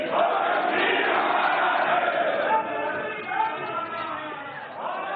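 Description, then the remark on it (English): Opposition politicians on the floor of India's Parliament shout, heckle, boo and scream over one another in a dense, loud, sustained roar that surges and dips but never lets up. “And it immediately provoked an outroar on the floor of the Parliament, mm-hmm. with opposition politicians heckling him and booing and screaming.”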